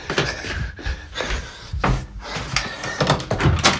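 A door creaks and thumps open with several clunking, rattling knocks and scrapes over a few seconds, fairly loud, with no voices.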